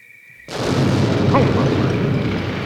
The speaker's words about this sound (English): Holy cow! There's been an explosion in the cornfield! Ah! The devil himself's broken loose down in our cornfield!